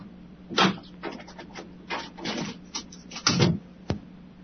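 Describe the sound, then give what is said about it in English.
A chair is moved so someone can grab a document, shifting and scraping with several short bumps and rustling knocks spread across a few seconds, the loudest near the start and toward the end, with no talking. “Sorry, I just moved my chair so I could grab a document.”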